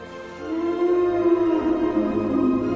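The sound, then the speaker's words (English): A deep, mournful Brachiosaurus call from Steven Spielberg's 1993 film Jurassic Park, made by sound designer Gary Rydstrom by slowing down goose honks, swells in and holds for over two seconds: a sustained, wavering howl-like tone with rich harmonics, loud and unaccompanied by speech. “To create these mournful calls from the Brachiosaurus, sound designer Gary Rydstrom slowed down the honks of geese.”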